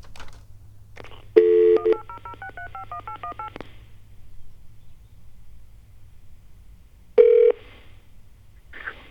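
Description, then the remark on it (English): A rapid run of touch-tone keypad beeps as a toll-free 800 phone number is dialed, each a short paired tone in quick succession, heard clearly over a low steady hum, followed by a louder tone burst and a later beep. “I'm looking at the clock and I'm thinking, oh, I can call this certain phone number I found.”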